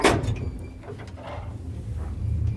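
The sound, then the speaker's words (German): A heavy metal inner door of a cramped old elevator slides and rattles shut, with a sharp clack at the start and a low rumbling, scraping drag continuing throughout. “Oh, es, ja, gibt eine, es gibt eine zweite Tür, wie denn bei uns in den alten Liften auch.”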